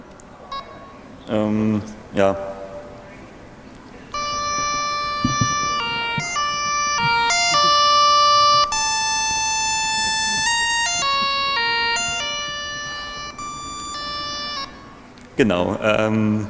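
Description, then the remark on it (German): A device plays one of several selectable alarm melodies compiled into it, usable for alarms and countdown timers: bright, buzzy electronic tones stepping up and down in pitch for about ten seconds, with a person speaking briefly before and after. “jetzt kann man hier aus verschiedenen Melodien auswählen, die sind alle einkompiliert.”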